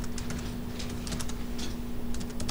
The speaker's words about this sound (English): okay, so now I'm typing in a procedure. In magma, there are really three types of ways to define a function.